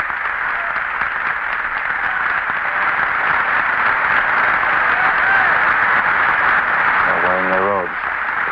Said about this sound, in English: Rather a long burst of applause.